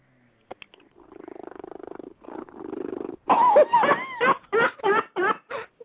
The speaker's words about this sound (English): That is one of my cats being insanely happy curled up in my lap tonight. That is your cat snoring? No, that is my cat purring like a freaking V8 engine.